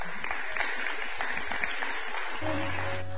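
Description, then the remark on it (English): An audience claps steadily in a dense, continuous wash of applause after being asked for a big round of applause; near the end a sustained low musical tone begins underneath the clapping. “Y'all come give a big round of applause.”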